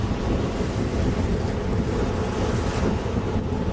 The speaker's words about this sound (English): The wind is still gusty as heck, still, but the waves are not coming in as far. The water's not coming in as far. And it doesn't deposit large, heavy items as it recedes